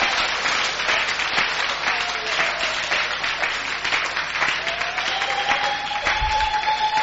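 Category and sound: crowd, audience clapping and applauding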